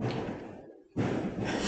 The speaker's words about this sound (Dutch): En weer op vuurwerk tussendoor.